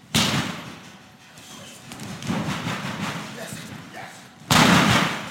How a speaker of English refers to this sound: The training gym has several rings. The fighters jump over each other, charge at one another, and practice how to fall when they get slammed down.